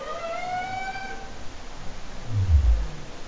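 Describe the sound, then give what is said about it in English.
Humpback whale song: a drawn-out, harmonic whooping cry that rises slightly and holds, followed by a loud, deep groan sliding downward in pitch, with no talking. “You know, humpback whales mainly are funny to me. I mean, they make these, since we're being non-scientific, very farty sounds and funny little whoops.”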